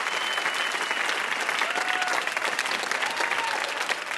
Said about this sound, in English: One more round of applause our VIP, Jed Abumrad.